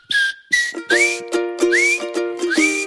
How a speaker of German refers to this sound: Also wenn ihr den Song das erste Mal hört, dann am Anfang pfeift oder ich weiß gar nicht, was das ist.